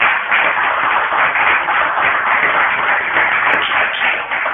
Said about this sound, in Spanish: Bueno, pues hay que darles un aplauso para ellos.